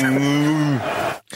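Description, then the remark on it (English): A person imitates a cow with one loud, drawn-out moo, holding a steady low pitch before it sags downward and trails off. “gone moo”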